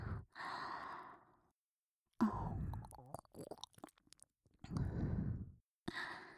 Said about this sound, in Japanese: こうして吐息をふーって吹きかけて、甘くささやいて。